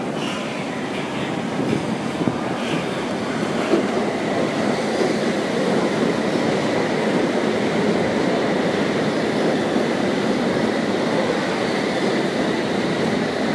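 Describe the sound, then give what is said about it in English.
A westbound District Line underground train, calling at all stations to Wimbledon, rumbles steadily at a station platform, a dense, unbroken roar with a faint metallic whine riding on top, loud throughout, with no voices. “This is a westbound District Line service. All stations to Wimbledon.”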